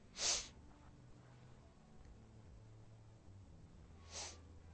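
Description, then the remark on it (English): A sharp, loud sneeze bursts out near the start, followed after a few seconds of quiet room tone by a second, softer sneeze-like burst. No one is talking. “Bless you, Father.”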